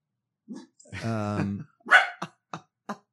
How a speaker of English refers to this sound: Bark, bark, bark, bark, bark, bark, bark.